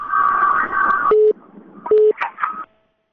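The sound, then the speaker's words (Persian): A radio call-in listener's telephone line goes dead: a burst of crackly line noise, then two short, steady mid-pitched beeps of a disconnect tone separated by a brief gap, before the line falls silent. “خب تلفن چون قطع شد فکر میکنم به هر حال اندکه گاهی مشکلات تکنیکی پیش میاد و شنونده ها انتظار میمانند.”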